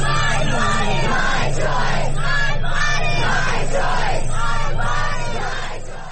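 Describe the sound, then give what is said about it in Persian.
A large crowd of protesters in the streets of the United States, opposing a Supreme Court ruling on women's rights, chants the slogan 'My body, my right' in unison, loud repeated shouts rising and falling in a steady rhythm over a constant low rumble of many voices, fading slightly at the end. “آنها هم ساکت ننشستند، به خیابان‌ها آمدند و فریاد زدند: بدن من حق من است.”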